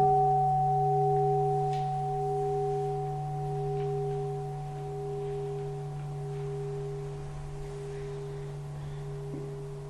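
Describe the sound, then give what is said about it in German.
A bell rings out with a long, sustained shimmer of steady overlapping tones, low and mid-pitched, slowly fading over ten seconds with no voices. “Vielleicht hören wir da noch mal eine Glocke”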